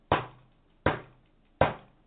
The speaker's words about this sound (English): You hear that? Friends, that's your breakthrough opportunity knocking.